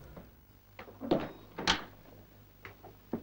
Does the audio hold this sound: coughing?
no